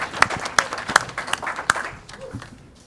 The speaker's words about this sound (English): A little welcome applause here. You guys get to sit down.